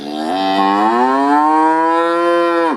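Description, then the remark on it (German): A single loud, drawn-out moo from a Holstein Friesian bull in a cow herd in Myerlip, Western Australia, about 1.95 metres tall and weighing 1.4 tonnes, lasting nearly three seconds with a steady, rich harmonic tone that drops off sharply at the end. “ein Holsteiner Stier aus einer Kuhherde in Myerlip in Western Australia, hervor.”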